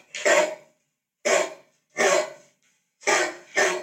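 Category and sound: animal, large dog barking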